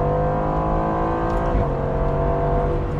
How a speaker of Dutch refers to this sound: Vooronder een V8, maar niet de oude V8 zoals ze die zelf hadden. Maar een geheel nieuwe, een Hot V, 4 liter groot. En afkomstig uit Duitsland, af Alterbach om precies te zijn. Dit is namelijk het Mercedes AMG blok.